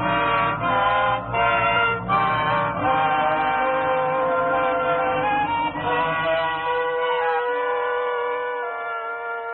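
Car horns honk in overlapping, sustained blasts over a low rumble of Saturday morning street traffic, loud and continuous before gradually thinning out toward the end.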